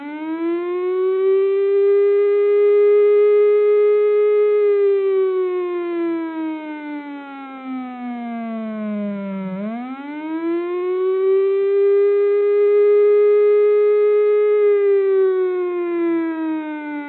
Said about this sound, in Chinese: 内政部警政署在我国沿海地区设置有海啸警报台，当听到像这样长度持续5秒、间隔5秒、重复至少2次的警报声响时，代表海啸再过不久就要来袭了。